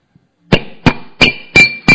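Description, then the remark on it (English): Five loud, hard knocks in a steady, evenly spaced rhythm, ringing slightly, like someone rapping on a surface to mimic a knock at a door. No one speaks. “The door, there was this loud, hard knock on the door.”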